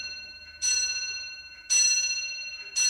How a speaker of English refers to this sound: that's my clock.